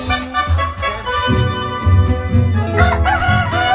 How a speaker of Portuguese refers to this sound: O galo errou, o relógio marcou